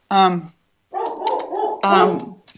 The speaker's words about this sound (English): I'm sorry about this dog. I'm going to go shout at it.